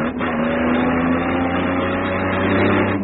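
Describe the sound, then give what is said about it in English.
A truck engine drones steadily and loudly with a low rumbling hum and constant harmonic tones, holding a level roar throughout without pauses or voices, as the truck turns sharply to the right in evasive action. “I'll have to take avoiding action. I'm going to turn to the right.”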